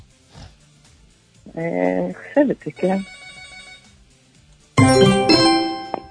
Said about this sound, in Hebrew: צלצל פה הטלפון, זה מעניין. איזה טלפון מצלצל פה?